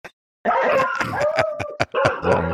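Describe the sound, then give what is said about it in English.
A dog barks and yowls excitedly, a loud, continuous run of vocalizing lasting a couple of seconds after a brief opening tap. “The dog or their mama's home.”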